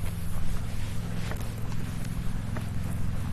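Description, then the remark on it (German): Large horses stand on a farm by a carp pond, with a few soft hoof thuds and shuffles over a steady low rumble of outdoor background noise. No voices are heard. “Ah, diese Pferde sind auch so schön und so groß.”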